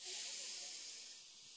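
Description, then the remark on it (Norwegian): A deep inhale through the nose, taken as part of a breathing exercise: one long, steady, airy hiss lasting well over a second, easing off slightly toward the end, with no talking. “Ok, da puster vi godt inn med nesa.”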